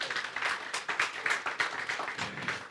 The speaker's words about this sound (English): Great. And so, yeah, give them a round of applause.